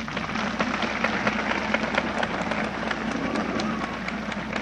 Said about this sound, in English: He's a grand old man. Give him a hand.